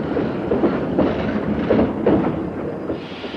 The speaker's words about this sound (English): Here comes the train.